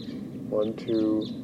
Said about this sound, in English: 1, 2, 3, 4, 5, about 6 or 7, or maybe more birds. Stop. They're recording the wild birds.